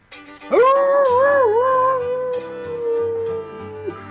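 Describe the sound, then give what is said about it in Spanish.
A wolf howl rises sharply, then wavers and holds as one long, loud note for about three seconds before cutting off, with a low steady hum underneath. “No sé, un saludo, una palabra, un sonido de un lobo.”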